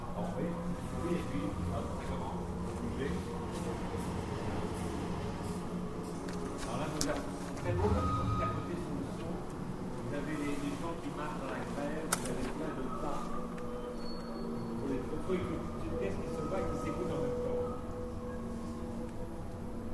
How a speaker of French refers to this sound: Ici, au bout d'un moment, on s'habitue, on entend le crissement de la corde, le souffle, l'épuisement, l'essoufflement du trapéziste et l'affrontement des deux souffles.